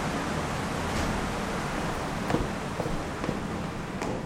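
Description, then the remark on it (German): An undershot water wheel, 4.70 m in diameter, driving a stamping mill, turns in flowing water: a steady, broad rush of water fills the scene, with faint splashes and knocks from the paddles recurring irregularly every second or so. “Das heisst, das Wasser tut im unteren Bereich auf Mühlenradblätter und Kammern treffen und tut so dann das Wasserrad in Gegenrichtung von der Flussrichtung antreiben.”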